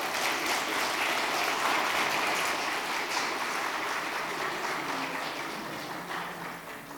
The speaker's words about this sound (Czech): Tak jste už poděkovali potleskem.